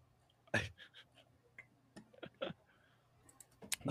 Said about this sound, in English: Will you hurry up already? Yeah, I'm fucking typing it.